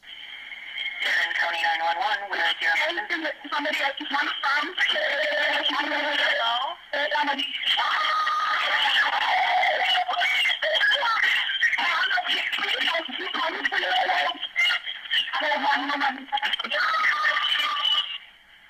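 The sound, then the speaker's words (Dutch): Frantic screaming and yelling on a recorded emergency phone call to dispatch, thin and muffled by the line, loud and almost continuous for nearly twenty seconds, with overlapping voices that are hard to make out. “Zoals je al hoort, is er heel veel geschreeuw en het is niet allemaal helemaal duidelijk te verstaan.”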